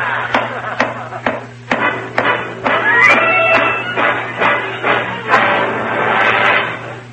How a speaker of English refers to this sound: I'll go up to the attic and pound on the ceiling of his room all night with a broom handle.